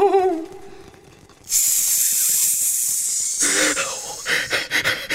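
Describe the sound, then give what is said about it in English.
A loud, sustained snake hiss bursts in after a brief tonal sound and carries on for several seconds, breaking into shorter sharp hissing puffs near the end. “The snake's awake!”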